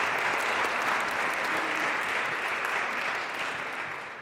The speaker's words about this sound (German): Applaus bitte.